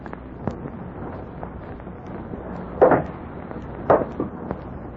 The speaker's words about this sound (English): And now the approach of stealthy footsteps outside the cottage. If the sinister figure of violence is coming, but wait.